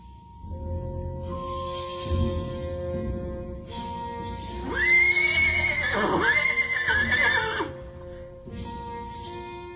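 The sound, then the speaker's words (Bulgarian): A horse whinnies loudly, a long, shrill, wavering neigh that rises and falls over several seconds, with some low shuffling and movement in the background before and after. “Ето ти този кон, юначе, да хвърчиш с него като орел,”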